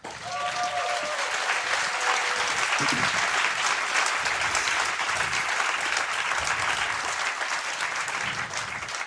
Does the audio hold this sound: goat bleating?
no